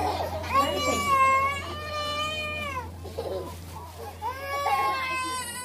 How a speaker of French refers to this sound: À entendre ces cris d'enfants, on comprend aisément que quelque chose ne va pas. Et d'infirmiers les auscultent. La plupart d'entre eux souffrent de malnutrition aiguë.